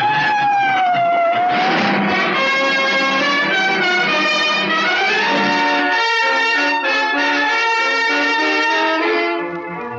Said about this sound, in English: A siren screamed. They ran, straight into the drawn guns of two officers in a patrol car.